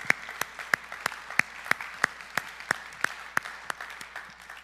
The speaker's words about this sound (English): Can you give the Lord another clap offering of praise for that?